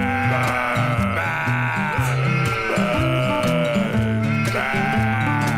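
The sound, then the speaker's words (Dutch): Children's voices imitate a sheep, bleating "baa" together in wavering, drawn-out cries over a steady musical backing with a bouncing bass line, loud and continuous throughout. “Wat voor geluid maakt een schaap?”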